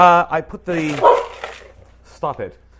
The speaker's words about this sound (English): You see, he's already starting to bark. Stop it. I'm not even using the machine yet.